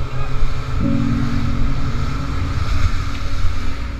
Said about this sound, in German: Also ich höre Wasser blubbern, vielleicht am Anfang sowas wie ein Motorboot oder so ähnlich.